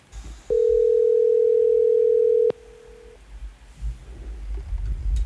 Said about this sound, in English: So I tell you what, let's dial up our guest here real quick and see if we can't get him on the phone